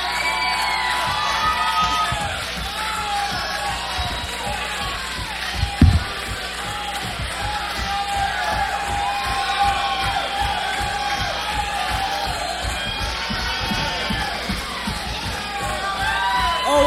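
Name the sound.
concert crowd cheering wildly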